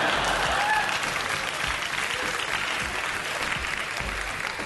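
A crowd applauds steadily, dense clapping holding at an even, fairly loud level for several seconds, with a few faint cheers mixed in near the start.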